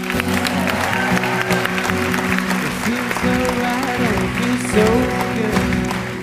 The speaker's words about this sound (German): Und ich würde um einen sehr, sehr, sehr grossen Applaus bitten